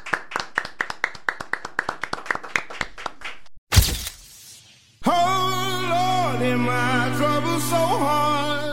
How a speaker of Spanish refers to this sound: ¿Le damos un aplauso? Gracias.